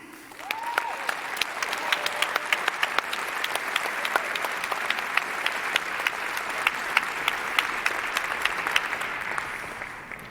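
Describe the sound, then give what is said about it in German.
Enthusiastic audience applause at a stage event in Lübeck welcoming a performer from the local Chaotikum hackerspace: a dense, steady wash of many hands clapping for about ten seconds, with sharp individual claps standing out and a brief rising whistle near the start. “Und aus diesem Hackerspace möchte ich jetzt auf der Bühne begrüßen mit einem tobenden Applaus”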